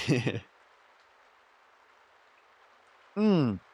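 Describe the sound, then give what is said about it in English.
A soft, steady patter of light rain in Cornwall fills the background, faint and continuous, with brief bursts of a person's voice at the start and end. “I think it's stopped raining now. Might be raining a bit lightly.”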